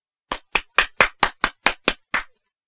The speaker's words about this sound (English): I can clap.